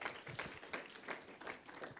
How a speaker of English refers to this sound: Amen. No, that was an awesome word. Give Mark another hand clap.